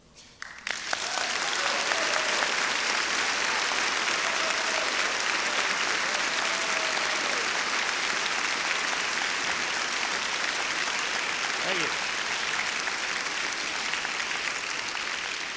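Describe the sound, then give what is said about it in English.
An audience bursts into sustained applause after a song, starting suddenly and staying loud and steady, a dense wash of clapping hands with a few faint whoops and voices mixed in. “They would cheer for me if you didn't, so you don't have to if you don't want to.”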